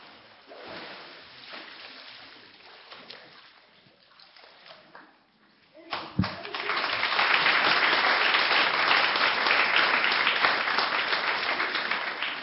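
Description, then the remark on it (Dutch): After several seconds of quieter movement and rustling, a large crowd bursts into loud, sustained applause after a baptism, filling the second half and keeping going to the end. “Het is geweldig om ook aan onze vreugde een uiting te kunnen geven met een applaus.”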